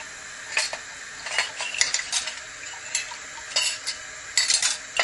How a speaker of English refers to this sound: Add a cup. Tons of dishes here to get done, huh?